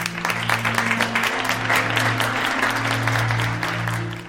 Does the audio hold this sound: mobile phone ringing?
no